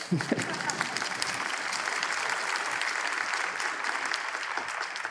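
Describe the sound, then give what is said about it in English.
An audience applauds steadily at a preacher's urging during a sermon about the Bible, a dense, even wash of many hands clapping throughout, with a brief voice-like sound at the start and no pause in the applause. “Go ahead and clap.”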